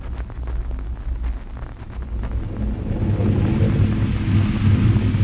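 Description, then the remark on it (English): An approaching storm rumbles low and steady while wind roars and rain patters, the whole wash of noise swelling louder over a few seconds, with no voices. “Get out of back here to the barn. Storm's coming.”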